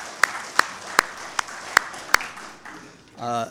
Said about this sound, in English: All right, for all of you who are keeping statistics, yes, now you can applaud.